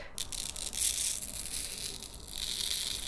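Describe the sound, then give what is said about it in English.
Fine manganese oxide powder pours onto a sheet of paper, making a soft, steady hissing rustle that lasts a few seconds, with light crackly paper texture and no talking. “I'll have to dump some of it on this paper here.”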